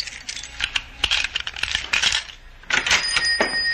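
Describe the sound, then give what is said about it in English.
Keys jingle and clink in a busy, uneven flurry of bright metallic taps, fumbled at a door lock, with a brief lull before a final burst of rattling. No one speaks. “Stop fumbling with those keys.”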